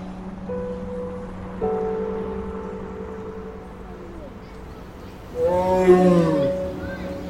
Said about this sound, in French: C'est beau, un tigre.